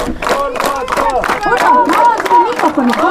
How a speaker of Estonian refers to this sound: Aplausi taha lõppeda.